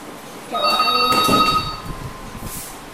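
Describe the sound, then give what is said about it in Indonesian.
A telephone rings once with a bright, sustained electronic tone lasting about a second and a half, clear against a quiet background, then fades out. “Untuk tim mengangkat telepon dulu.”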